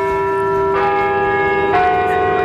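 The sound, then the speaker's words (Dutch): Church bells ring in a steady, sustained peal, with two fresh strikes roughly a second apart layering over a lingering harmonic hum; loud, with no voices. “Laten we dan maar de kerkklokken luiden.”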